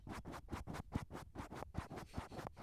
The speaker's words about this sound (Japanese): 鼻をマイクにこすりつけてから始まりましたけどね、聞こえましたか？鼻をマイクにシュッシュッシュッってやってたんですけど、もう一回いきますよ。